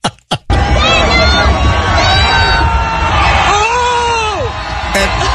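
A large crowd roars and cheers without letup at a boat parade as Tom throws the trophy from one boat, with scattered high whoops and shouts rising above the din, after two quick sharp bursts at the start.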